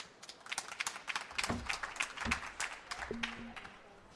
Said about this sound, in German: Und jetzt bitte ich um einen ganz herzlichen Applaus.